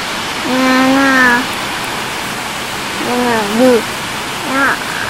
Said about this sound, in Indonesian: Hujan lagi nih. Iya. Hujannya gede nggak? Iya gede nih.